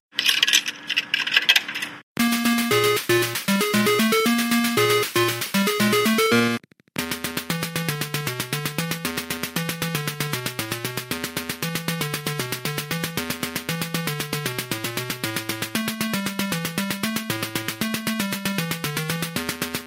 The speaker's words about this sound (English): but its fantastic game music. With its peppy and jaunty theme, there were many times I would leave showbiz humming its tune.